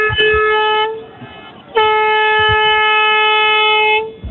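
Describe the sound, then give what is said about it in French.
Two loud siren blasts at a steady, unwavering pitch, rich in harmonics: a short one of about a second, then after a brief pause a longer one lasting over two seconds, over a low rumble. “Ce sont les deux coups. Voilà, on laissait entendre les bonnes sirènes.”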